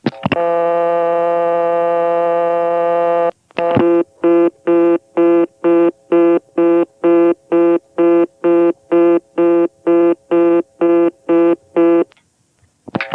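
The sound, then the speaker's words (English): A steady, buzzy telephone tone holds for about three seconds, then dialing 1 on a Bell Postpay payphone in Sperryville, Virginia cuts it off with a single click, and a fast, loud on-off reorder signal pulses repeatedly until the end. “Cutting into a reorder from payphones when you try to dial 1 is something that is pretty much the exclusive province of the Bell Postpay system.”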